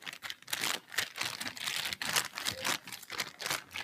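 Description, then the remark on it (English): Secondhand wrapping paper on a present crinkles and rustles continuously as the present is squeezed and felt by hand, with irregular bursts of crisp crackling and no voices. “What could it be? I know. I'll just feel it. Ooh, nothing hard in there, no edges.”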